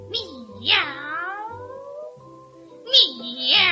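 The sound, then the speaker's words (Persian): A big cat meows twice, drawn-out, wavering cries a couple of seconds apart, fairly loud over a low steady hum, with a softer call trailing in between. “من خودم میدونم این گربه خرس گنده که همش خوابیده و زر و زر میکنه چقدر بد جنسه.”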